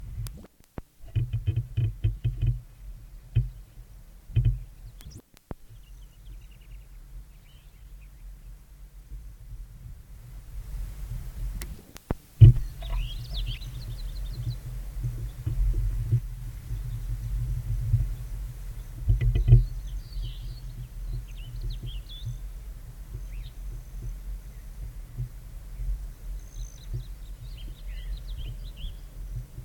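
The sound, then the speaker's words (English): The buzzing wing trill of an intruding male broad-tailed hummingbird passing by, followed by a few thin, high chirps from the resident male on its perch, scattered over a steady low rumble, with no voices. “Every time another passing male comes by, you can hear the wing sound of the intruder, and then the resident starts giving chirps.”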